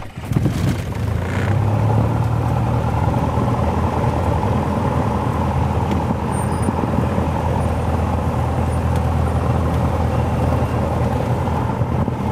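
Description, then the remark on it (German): The engine of a Texel Air Cessna light propeller plane, parked at an international airport, is started by the pilot: it cranks and catches, then settles into a loud, steady droning roar, with rattling vibration and wind buffeting throughout. No one speaks. “Wer Angst hat, dem sei gesagt, es geht alles sehr gemütlich zu und auch die ältesten Cessnas sind noch sehr gut in Schuss, meint Mark und wirft den Motor an.”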